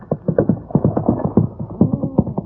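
animal, horse hooves clip-clopping

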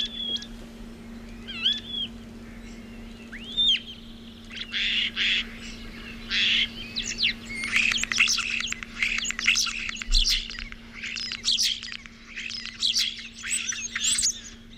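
bird, starling song

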